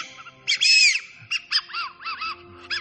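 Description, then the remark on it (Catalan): A small hemispherical tin bird-call whistle, a hunting decoy blown between the lips, trills and warbles in a series of short, bright, looping phrases, mimicking a thrush's song to attract it, with brief pauses between bursts. “Es col·loca entre els llavis i es bufa, intentant reproduir el cant del tor per atreure'l.”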